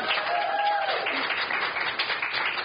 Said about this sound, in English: We never get applause on a regular podcast. This is great. So now we're going to have to just pipe them in somehow.